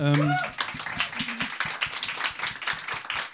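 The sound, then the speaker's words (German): After a brief vocal sound, hands clap in a quick, steady rhythm for a few seconds, fairly loud, like a small round of applause. “Also es ist schon krass, also es ist schon Applaus wert.”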